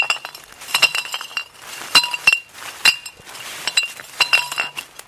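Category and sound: household object, glass bottles clinking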